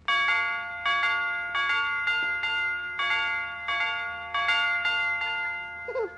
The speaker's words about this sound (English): Will you, Mr. McGee, will you come over to our house and fix our doorbell so it goes dee-dee, dee-dee, dee-dee,